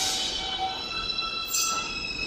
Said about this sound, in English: It's a sound that you hear when you're standing on the platform and a train is just about to leave the station. And you hear these three pure high tones.